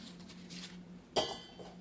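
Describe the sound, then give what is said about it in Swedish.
A large saucepan is taken out and handled, giving one sharp metallic clank that rings briefly before fading over a low hum. “Jag tar en rätt stor kastrull där för att när den här är mjuk så ska jag stöta sönder den med potatisstöt.”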